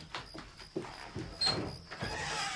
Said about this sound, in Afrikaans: Luister hierso, klop iemand nou.